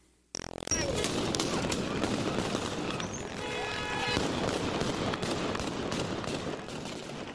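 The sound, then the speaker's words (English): Rifle gunfire from Taliban soldiers firing into the air to break up a peaceful protest by Afghan women cracks out in repeated sharp bursts over a loud, chaotic crowd, with voices shouting throughout. “Tuesday's peaceful action was violently repressed by Taliban soldiers who fired their rifles into the air to break up the protest.”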